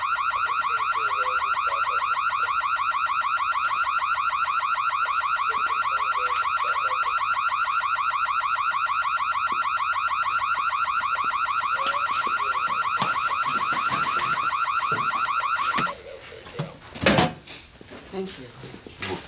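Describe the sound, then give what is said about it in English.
A home security alarm, set off when the resident forgot her code, blares with a loud, steady, piercing electronic tone for about sixteen seconds, then cuts off abruptly, followed by a few clunks and door-like thuds. “Superior Alarm, stay where you are! Please. This woman, she lives here. She just forgot her code.”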